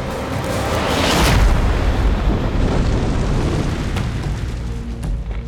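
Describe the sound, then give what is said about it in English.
A massive, deep booming thud as the giant Kabra Khan topples forward and slams into the ground, crushing a fire. It is loud and followed by heavy rumbling that shakes the earth and rolls on for several seconds, with no voices. “Kabra Khan hit the ground with a massive booming thud, crushing the fire and just barely missing Hunapu and Shibalanke.”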